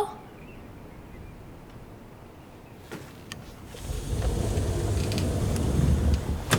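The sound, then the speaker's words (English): A back door is shut with a few quick mechanical clicks and a faint creak, followed by a low rumbling background that swells and lingers to the end, with no voices. “Back door closed.”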